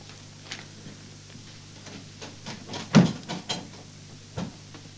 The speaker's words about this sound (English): Shut the door, then. That's what you usually do, isn't it? I'll go and bolt the door now.